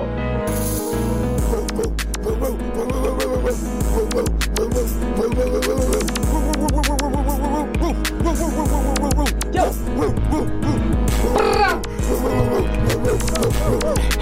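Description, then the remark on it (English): A small dog's quick, rhythmic panting is part of a loud, dense music beat, its steady breathy huffs blending into the beat for the whole stretch. “Oh, there's a little dog coming in there.”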